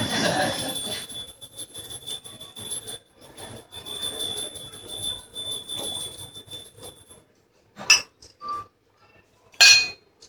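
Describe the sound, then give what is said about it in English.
A steady rushing hum with faint high whines fills the first seven seconds, then stops. After that come two short glassy clinks a couple of seconds apart, as a glass is handled while a little water is drunk, with no one talking. “I'll drink a little water to give you more thinking time.”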